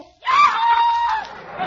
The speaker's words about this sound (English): with all these mountains around here, we should be able to hear our echoes. Listen. Yoo-hoo!